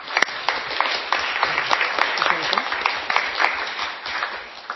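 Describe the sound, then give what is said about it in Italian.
Audience applause at a council meeting after councillors are announced as elected: a dense, steady patter of many hands clapping for about five seconds at moderate loudness, with some voices murmuring underneath. “Proseguiamo dunque. Applauso.”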